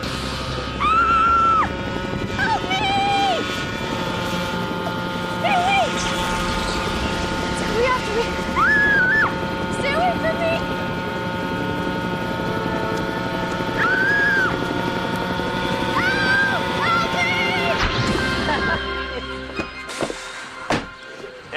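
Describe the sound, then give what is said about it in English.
A small remote-controlled model helicopter fitted with a little camera whirs with a steady, buzzing motor drone, brief squeaky sounds popping over it, before the noise drops away near the end. “This model helicopter I used to scare you with, it has a little camera in it.”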